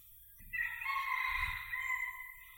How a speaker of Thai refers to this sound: ดูสิเสียงไก่ได้ยินไหมฟังออกไหมมันมีอัตตาตัวตนมันเขินมันไม่ยอมร้องเลยรู้สึกไหม